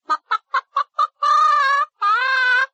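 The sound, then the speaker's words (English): A chicken clucks five times in quick, evenly spaced bursts, then lets out two longer, drawn-out cackling calls, clear with no one talking. “Eggs, chicken, eggs!”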